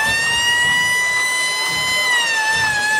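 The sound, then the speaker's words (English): A loud, sustained siren-like horn blares for about three seconds, a steady buzzy tone rich in harmonics that sags slightly in pitch near the end, with no one talking. “That shit sound like the horn that come when the nigga with the jacket show up.”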